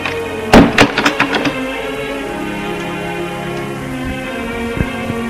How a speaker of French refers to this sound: Et il fait monter Gilles. Frappe à une porte. L'ouvre, fait rentrer Gilles et ferme la porte.